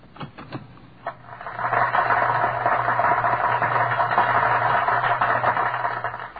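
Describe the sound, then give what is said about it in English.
After the tape has run off its roll, the loose tape end flaps against the running tape machine: a few sharp clicks at first, then a steady, fluttering mechanical whir over a low hum, with no voices. “The tape has run off this roll. The end is flattening against the machine.”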